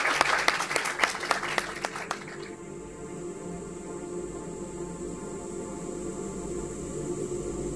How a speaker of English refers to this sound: So I just want to ask everybody to please join me in a round of applause for these really wonderful efforts. Thank you so much.